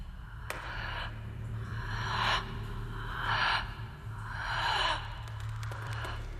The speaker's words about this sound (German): Auf Kommando beginnt die Tänzerin zu atmen. Die Kamera zeigt Hände, Schultern, die sich zuckend vor und zurück bewegen. Ein Körper, der sich langsam mit Leben füllt.